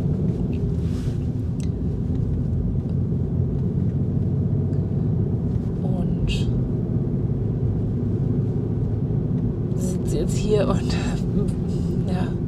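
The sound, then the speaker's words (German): A steady, low engine rumble fills the space from start to finish, the muffled drone of sitting inside a car, recorded with a clip-on microphone, with a voice speaking intermittently over it. “Ich sitze im Auto und habe mein Ansteckmikrofon dabei.”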